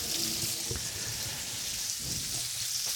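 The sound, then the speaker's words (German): Steady hiss of running water splashing onto a zucchini as it is rinsed clean before cooking, continuous, with faint low clunks underneath and no voices. “Die mache ich einfach ein bisschen mit Wasser sauber.”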